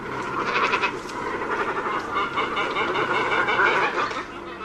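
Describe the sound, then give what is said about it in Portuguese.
Great cormorants (Phalacrocorax carbo) calling in a steady, overlapping chorus of harsh, nasal, bleating cries, loud, with no talking. “Chíscala, corborán, corvo mariño, corva, cormorán, para nomear a Palacrocorax carbo, outra ave das nosas costas, de tamaño grande, pescozo longo, pico prominente, plumaxe que semellan escamas.”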